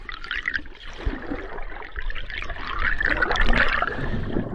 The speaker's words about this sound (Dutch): Luister maar. Het waait en het is vloed en ik stap vanaf het strand de Noordzee in. Onder water klinkt dat lopen op die zanderige bodem heel anders.